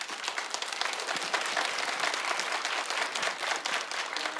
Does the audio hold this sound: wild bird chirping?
no